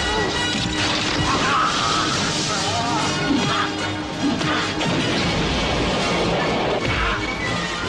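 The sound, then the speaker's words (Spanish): Heavy punches and thudding blows land repeatedly in a loud, dense action mix from the trailer of the film Total Recall (Desafío total), starring Arnold Schwarzenegger, with crashes and swells of music around them and voices briefly breaking through. “Bueno, se oye mucho mamporro ya en ese tráiler, se oyen golpes, puñetazos.”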